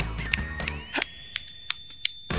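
A single person gives a round of applause with real hand claps, not a sound effect, clapping about seven times in a loose, uneven rhythm. Each clap is a sharp crack, with a faint steady high-pitched tone running underneath and no talking.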